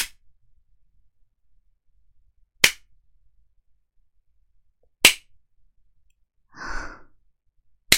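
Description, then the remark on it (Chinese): Sharp, loud whip lashes crack out one at a time, roughly every two and a half seconds, part of a punishment of twenty lashes, with near silence between them and a shaky breathy sigh after the third. “那小狗今天还要挨20下鞭子呢。”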